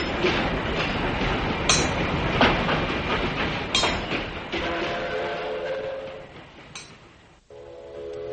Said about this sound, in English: Freight cars loaded with goods are being shunted across the tracks by switch engines. Rail service to the provinces of Korea expanding every day.